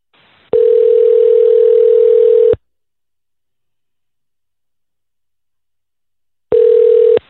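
A telephone call rings out on the line: a steady electronic ringback tone buzzes for about two seconds, goes silent for several seconds, then starts again. The tone is clear and loud, with no voices.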